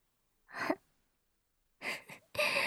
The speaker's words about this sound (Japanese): おっきいあくび。のが映っちゃった。